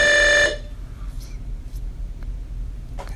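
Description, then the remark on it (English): A door intercom buzzer sounds one loud, steady harsh tone for about half a second, then cuts off, leaving a low background rumble with a few faint clicks. “I got buzzed, but they buzzed somebody else, so they're not really looking for me.”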